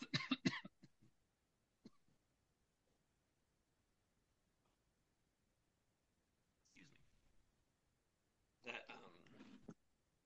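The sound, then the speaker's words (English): A quick cluster of sharp coughs, then a long quiet pause broken by a rasping throat clear and a final burst of harsh coughing. No one speaks. “That sorry, I've got to cough 1 second.”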